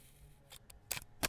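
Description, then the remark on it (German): A few sharp mechanical clicks, ending in a firm snap, as a microphone plug is pushed into the jack of a DAT recorder, with no one speaking. “Mikro rein.”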